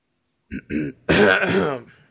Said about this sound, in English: Still have a bit of a cough from last week